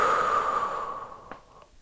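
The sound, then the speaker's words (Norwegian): A long, steady exhale after a held breath, following spoken instructions to breathe in, hold and breathe out: a soft airy rush that slowly fades out over nearly two seconds, with a faint click near the end and no talking. “Og pust ut.”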